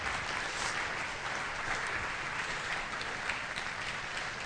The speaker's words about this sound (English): Hey, clap offering to the Lord. Yeah, yeah.